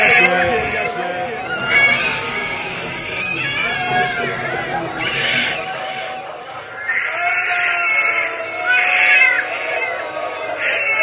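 A baby cries continuously for several seconds in high, wavering wails that rise and fall in pitch, loud and strained, with brief catches of breath between cries.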